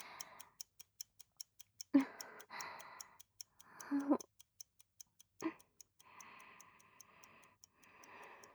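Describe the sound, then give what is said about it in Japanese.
A clock ticks in a quick, even rhythm from start to finish, crisp and clear, while breathy, wordless vocal sounds and soft murmurs come and go over it. “そのような時計のことより、溜まっているお仕事をお願いいたします。”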